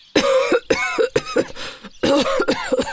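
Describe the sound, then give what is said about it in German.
A grandfather coughs hard as he comes out of a smoke-filled old wooden shed, in a series of rough, hacking bursts, several fits in quick succession with short gasping pauses between them, loud. “Da fliegt die Holztür auf und Opa kommt hustend heraus.”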